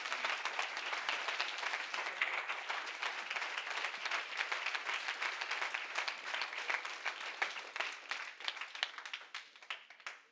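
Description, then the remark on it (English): A crowd breaks into sustained applause, a dense crackle of many hands clapping at once that holds steady for several seconds before gradually thinning and tapering off at the end. “Oh, somebody give him a hand clap if he's your husband.”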